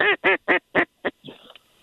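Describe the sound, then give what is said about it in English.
Five loud, evenly spaced duck quacks from a duck call ring out in quick succession, clear, then trail into softer chattering calls with a brief thin whistle, as a hunter works ducks on a duck hunt. No one speaks. “Oh, that sounds like a good whistle there. Some good call in there.”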